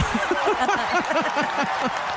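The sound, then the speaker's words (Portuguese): A burst of steady crowd applause, dense and continuous clapping at an even level, with short rising and falling vocal whoops or cheers mixed through it. “Tem palmas?”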